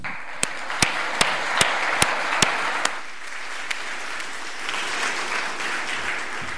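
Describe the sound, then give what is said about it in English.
An audience applauds steadily throughout to welcome a keynote speaker at a talk on anti-features. For the first three seconds, a loud, sharp clap sounds at an even beat of about two per second, then the broad applause carries on alone. “So please give a big round of applause”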